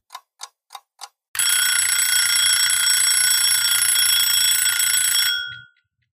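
An alarm clock gives four quick ticking clicks, then bursts into a loud, continuous metallic bell ring that lasts about four seconds before stopping abruptly. Alone, with no talking.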